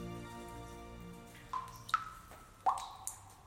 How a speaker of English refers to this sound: There's water dripping from the roof. And a stream trickling through the cave.